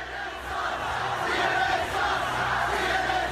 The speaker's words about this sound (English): Jim Acosta tweeted this last night. This is just a small clip of the crowd coming after CNN.